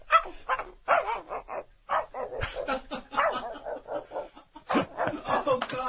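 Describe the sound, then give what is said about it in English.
A person imitates a dog barking in the distance, making a steady string of muffled, yappy barks and short yips that continue in quick bursts for several seconds. “For all of those plugs, I now need you to do a Faraway Dog, please.”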